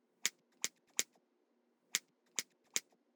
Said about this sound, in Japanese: うちのハサミさばきに感動して涙しても知らんよ。